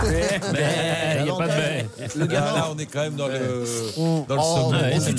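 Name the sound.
goats bleating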